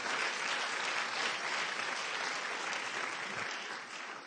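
An audience claps for Jesus steadily for about four seconds, a dense, even wash of many hands with no talking, fading slightly near the end.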